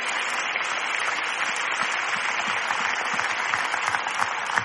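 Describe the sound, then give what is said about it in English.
A church audience claps their hands during a sermon at the preacher's call, a dense, steady wash of many overlapping claps at an even loudness, with no one speaking over it. “If you know I'm preaching right, clap your hands. Clap your hands.”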